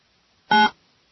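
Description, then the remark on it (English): A single short telephone dialing tone from an old phone as a number is dialed to call a guest, a steady electronic beep lasting about a quarter second, sounding clearly and alone against near silence. “We'll get the old phone up here.”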